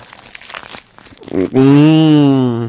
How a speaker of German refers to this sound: Und könnt ihr euch vorstellen, wie unglaublich saftig dieser Döner ist, in den ich jetzt gerade ganz nah am Mikrofon reinbeiße.